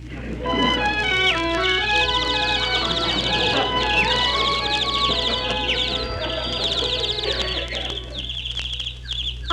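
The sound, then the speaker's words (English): A dense chorus of birds in the woods chirps and trills without pause, many calls overlapping at moderate loudness over a steady low hum in the background. “Here I am in the woods. And look at the animals following me. Oh, see the pretty birds.”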